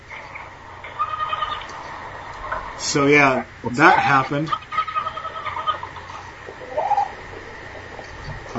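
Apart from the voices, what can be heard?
goat bleating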